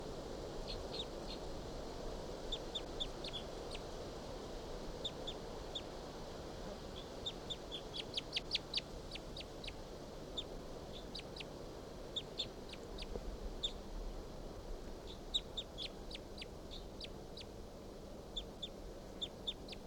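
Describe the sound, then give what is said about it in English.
Soft, high call notes of a wild bird repeat in short bursts over a steady low background hiss, with brief clusters of quick chirps scattered throughout. “And their call notes, their soft calls.”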